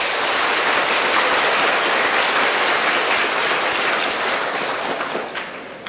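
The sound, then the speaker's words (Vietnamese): A crowd applauds to praise themselves for their choice to study at temples, a dense, hissing wash of applause that holds loud and even for several seconds, then thins and trails off at the very end. No voices. “Các bạn hãy cho một tràng vỗ tay để khen mình đi.”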